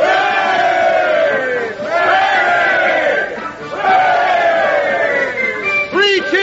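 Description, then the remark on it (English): A large crowd at a street parade of tradesmen with flags, banners and bands cheers loudly in three long, swelling shouts like hurrahs (three cheers for the clockmakers), each rising then trailing off, followed by a burst of excited, wavering cries. “There they go, across the end of the street. Flags, banners, bands.”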